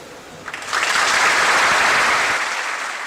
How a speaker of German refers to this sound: Applaudieren wir aus Höflichkeit? Klatschen wir, weil die Rede Inhalte vermittelt hat? Weil sie engagiert war und sie uns emotional angesprochen hat?